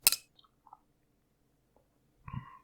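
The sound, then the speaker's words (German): Glasses of pale Helles lager clink together in a toast, a sharp knock at the start and then a bright ringing clink near the end, fairly quiet with no talking. “Und ich sag mal, Prost Hannes. Prösterchen”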